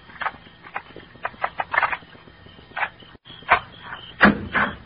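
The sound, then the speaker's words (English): Jingling and clicking of keys fumbling in the lock of a house's locked back door, a brief pause, then louder metallic clatter as the latch turns and the door opens. “I'd like to try my keys first.”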